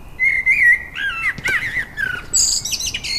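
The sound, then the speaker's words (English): A resident blackbird in a silver birch just outside a front door sings in the evening: a clear, fluting phrase of rich whistled notes, followed by higher, thinner twittering flourishes, heard alone with no talking. “Blackbird, of course, one of the birds to sing first in the Dawn Chorus.”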